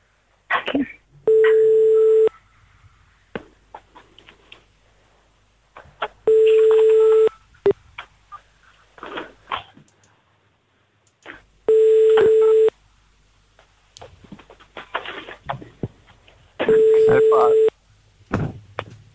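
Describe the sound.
A phone line rings out four times as a radio show dials a listener who does not answer, each steady electronic ring tone about a second long and spaced several seconds apart, with voices talking in the gaps between rings.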